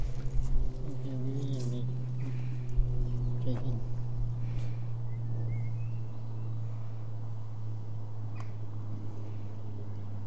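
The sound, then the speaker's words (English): A handbag squeaks in short, wavering bursts as it is handled, with occasional clinks and rustles, all over a steady low droning hum in the background. “Anyone wondering what the squeaking sound is? It's my handbag.”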